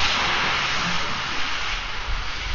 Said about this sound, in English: What's that hissing? That's the cold air meeting his hot little body.